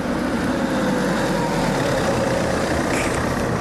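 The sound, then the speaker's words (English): A taxi with its orange light on approaches on the left side of the road, its engine rumbling in a low, even idling drone that holds at a constant loudness throughout, with a faint higher hum briefly rising near the end. No one speaks. “I even know when a taxi is coming with its orange light on.”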